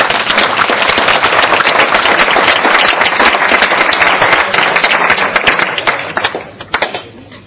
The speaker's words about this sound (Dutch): Dan bent u bij deze geïnstalleerd. Ja, u mag wel gaan klappen hoor.